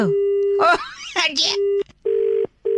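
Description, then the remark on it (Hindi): A steady telephone tone hums while a voice speaks briefly over it, then, after the other caller hangs up, the line breaks into a loud, repeating on-off beeping of the disconnect tone. “Hello, phone काट रही है आप, सो रूड ऑफ यू।”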